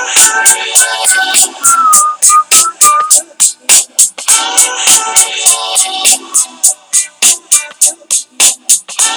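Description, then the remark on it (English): A bright whistled melody glides over a fast, steady beat of crisp percussive hits in a song, most noticeable in the first few seconds before the rhythm takes over. “Trying to teach my kid how to whistle listening to this song, and also play the piano.”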